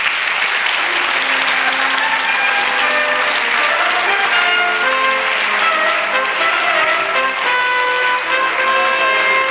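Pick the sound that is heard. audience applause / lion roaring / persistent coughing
audience applause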